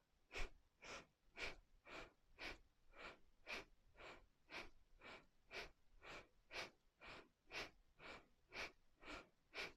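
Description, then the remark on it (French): Rapid, forceful breathing in a steady rhythm, about two sharp breaths per second repeating without pause, alternating inhales and exhales as in a vigorous breathing exercise. No one speaks. “Puissant dans la respiration.”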